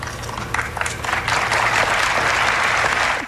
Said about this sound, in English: The polite applause there is very different than the way that the Bears players respond to it in the locker room.